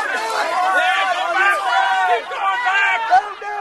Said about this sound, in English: And a lot of hooting and hollering and some real ugliness.